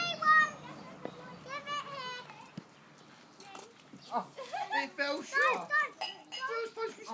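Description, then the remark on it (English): Rhythmic, high-pitched trampoline squeaks repeat as children bounce on a trampoline on a lovely day of about 21–22 degrees, mixed with excited children's voices and shouts throughout. “They're on the trampoline as well, which is the squeaking noise.”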